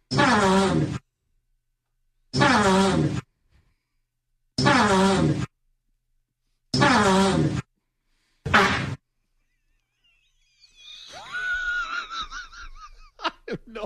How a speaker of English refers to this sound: I'm going to play you Antonio Brown's fart sans music, and you just have to guess what song it is, okay?